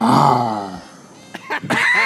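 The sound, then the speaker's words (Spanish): A man's voice imitates a lion roar: one loud, gravelly roar that slides downward in pitch, then fades into a few short, breathy bursts. “Una vez más, para que todas esas fanaticadas te escuchen rugir y digan, yo quiero que ese león me devore.”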